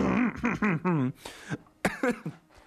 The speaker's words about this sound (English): I kind of did a theatrical cough there, and it caused me to cough even more. Oh, boy.